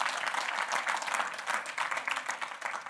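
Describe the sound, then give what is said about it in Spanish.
An audience applauds for the Lord, many hands clapping in a dense, continuous patter that holds at an even level throughout with no voices breaking through. “Y Juan, sí, hermanos, podemos darle un aplauso al Señor.”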